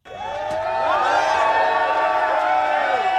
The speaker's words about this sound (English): Tadej Pogacar is now at the point where he gets an ovation just for stepping off the team bus. That was before the start of the Tour de France 3 weeks ago, when the defending champion was modest about his status as pre-race favourite.